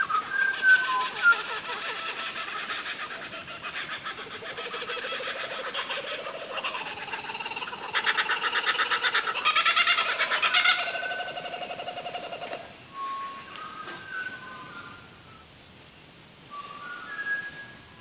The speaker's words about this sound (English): For a long time after that, I could hear faint versions of the song from other birds in the area, but none as clear and dedicated or diverse as this one.